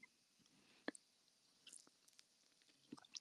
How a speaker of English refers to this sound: You could hear the whole time. Is it that bad? Is it like, as in every individual like crunch is heard?